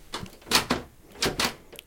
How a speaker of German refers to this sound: Die Tür ist abgesperrt. Bitte, wir kommen hier nicht mehr raus. Oha, ich glaube, ohne eure Hilfe kommen die beiden aus dem Badezimmer nicht mehr heraus.